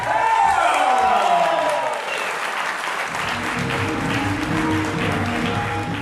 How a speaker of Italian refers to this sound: Un grande applauso, signore e signori. Facciamo sentire il calore italiano.